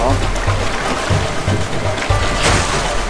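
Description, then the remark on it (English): A boat churns through choppy water on a rough stream, with a steady rush of spray over a low, pulsing engine throb and a louder splashing surge near the end. “Looks like our peaceful boat ride is over. Some rough streams ahead.”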